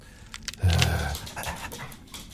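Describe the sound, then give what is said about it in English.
Dogs panting, a quick run of rhythmic, breathy huffs that start with a louder burst and then continue as softer, evenly spaced breaths. “So all these dogs have been here for years and years?”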